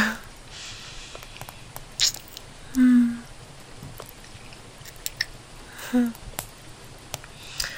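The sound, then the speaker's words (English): Soft, wet kissing sounds, a scattering of quiet lip smacks spread unevenly over several seconds, with a couple of brief low murmurs in between, while it rains heavily outside. “But I don't mind when you're holding me. Kissing me.”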